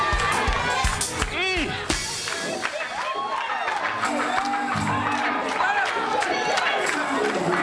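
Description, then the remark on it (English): An audience shouting and cheering in a loud, continuous roar, with overlapping voices rising and falling, scattered whoops and high pitched exclamations cutting through the steady crowd noise. “Y'all shouting on the appetizer.”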